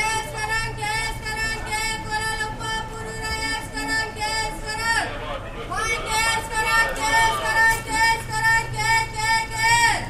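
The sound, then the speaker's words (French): Busy bus terminal ambience in Malaysia: a steady murmur of many indistinct voices over a constant low engine drone, filling the whole stretch without pause at moderate loudness. “Au terminal de bus, à Alors c'est tard, en Malaisie.”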